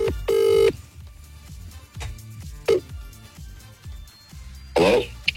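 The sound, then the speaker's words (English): The ringing tone of an outgoing telephone call, made to say good morning, sounds over the line, a clear steady electronic burst followed by a shorter one, with faint background rustling and a brief warbling sound near the end. “Yeah, just ringing to say morning.”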